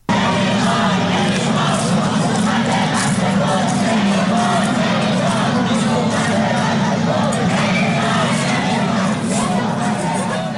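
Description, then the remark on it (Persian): A large protest crowd gathered in central streets chants anti-government slogans and shouts together on a Wednesday evening, a dense, loud roar of many voices that stays steady for the whole stretch, with no single speaker standing out. “منتشر شد در شامگاه چهارشنبه که معترضان با تعداد قابل توجهی در خیابان‌های مرکزی تجمع کردند و شعارهای ضد حکومتی سر می‌دادن.”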